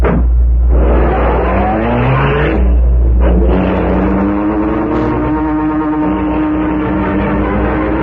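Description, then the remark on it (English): A car engine revs loudly, its pitch rising and falling through several throttle bursts before settling into a steady drone as the vehicle pulls away, continuous throughout. “dragged the still unconscious man to the rear door of the building, and put him into the car.”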